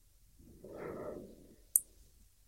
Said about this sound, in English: And we can hear the breathing again. Yeah, there is a breathing all.